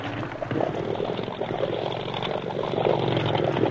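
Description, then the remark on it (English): A motorboat engine roars steadily at full throttle, a loud, continuous mechanical drone with a churning, watery texture and no break across the whole stretch. “Full throttle now.”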